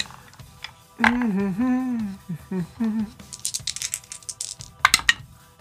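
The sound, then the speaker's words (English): A short hummed vocal sound, then a few seconds of dice rattling and clattering across a table in quick, bright clicks, ending in a couple of sharper knocks, as dice are rolled during a tabletop role-playing game attack. “That's the wrong dice.”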